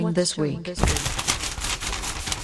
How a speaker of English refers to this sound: The paper rustle. Macam earthquake. Signature rustle. Every week different. Yeah, every time different newspaper, ma.